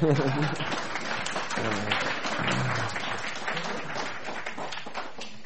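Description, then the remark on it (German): Sustained applause from an audience welcoming a guest invited to come to the front, a dense, steady wash of many hands clapping at once for several seconds, with faint voices mixed in beneath it. “Vielleicht einen Applaus.”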